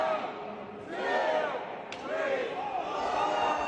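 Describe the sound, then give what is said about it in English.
A single sharp, loud open-hand slap, the third and final slap of the event, cracks out midway through, surrounded by a large crowd yelling and cheering that swells before and after the impact. “And I think this is his third and final slap of the event, and it was kind of loud, so let's dial that back a little bit.”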